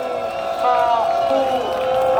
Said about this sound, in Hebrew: וכמו שאתה שומע פה את ההמונים, תן לשמוע, תן לשמוע